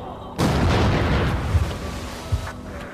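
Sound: gunshot sound effect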